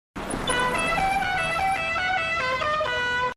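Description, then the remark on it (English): A voice does an impression of a musical car horn that comes out like the Mexican tune La Cucaracha, blaring a short stepping melody of bright, buzzy tones for about three seconds, loud, with no other talk. “I tried to do an impression of a horn, and then, like, it just sounded terrible.”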